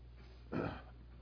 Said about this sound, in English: I'm sorry, I'm having trouble not coughing tonight. I apologize. Yeah, I have water. I've drank almost all of it. I don't want any more. I've tried that, and I've got two cough drops in my mouth, and it's not working right now.